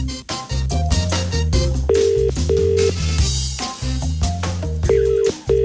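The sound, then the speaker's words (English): Electronic telephone dialing tones and ringing beeps play in a quick sequence over a dense, steady musical backing as a call is placed to Euston Station in London. No one speaks. “This morning I thought we'd phone up Euston Station in London.”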